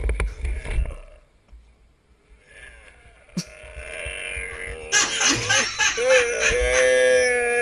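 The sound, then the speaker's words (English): A person who has had the wind knocked out of them lets out a strained, drawn-out groan that grows louder and rougher toward the end, after a few dull thumps and quiet gasping breaths at the start. “Oh, you know this one's going to be groany.”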